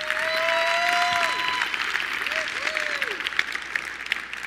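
A church crowd applauds loudly and steadily for several seconds as two couples come out, dense clapping filling the whole stretch, with a few sliding whistles or whoops rising and falling over it early on.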